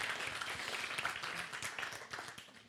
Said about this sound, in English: Thank you. Should we give him a clap? That was rather good, wasn't it? Woo.